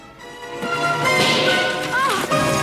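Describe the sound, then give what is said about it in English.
Horses gallop hard onward, pulling a rattling carriage, with a loud, dense clatter of hooves and wheels that runs steadily throughout, busy, with a brief rising cry near the end. “The horses continue galloping onward.”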